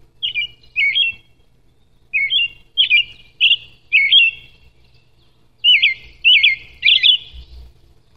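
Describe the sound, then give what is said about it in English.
An American robin sings a series of clear, warbling phrases in three bursts separated by short pauses, each phrase rising and falling in a bright, carolling rhythm with no talking. “So there's your American robin, our traditional harbinger of spring, but you got to kind of take that with a little grain of salt and, you know, do that as you would.”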